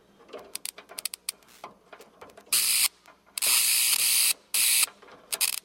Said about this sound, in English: So at some point, I think Crackjaw or Tommy, one of the characters, gets electrocuted, and we're using a bug zapper that I'm just putting a pencil into.